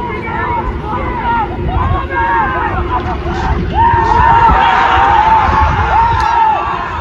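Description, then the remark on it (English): A team shouts and cheers together while practising a championship celebration, jumping around in a loud, continuous jumble of sustained excited yelling, with wind or rumbling noise underneath throughout. “They actually yelled, okay, final out, game seven, let's see it. And they jumped around.”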